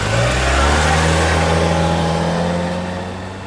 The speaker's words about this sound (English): She drove away as fast as she could.